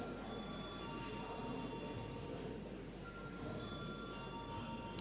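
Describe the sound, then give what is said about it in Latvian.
A parliament chamber bell rings before deputies vote on a proposal, ringing without pause for about five seconds, a steady, loud, shrill metallic ringing that holds an even level throughout, with no voices over it. “Lūdzu zvanu.”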